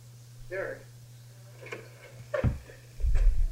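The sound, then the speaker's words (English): A few dull, thudding knocks on a door, spaced unevenly over a couple of seconds, the last ones heavier and boomier, with a steady low hum underneath. “A real knock.”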